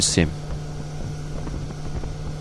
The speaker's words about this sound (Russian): И человек, соответственно, наверное, это небольшой катер или лодка моторная, так вот не разберешься, он плывет по этому озеру и комментирует.